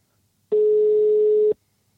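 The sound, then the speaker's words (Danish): A phone line ringing with no answer: one steady, fairly loud ringback tone lasting about a second, then silence, with no voices. “Hvis hun tager telefonen, så bryder hun reglerne.”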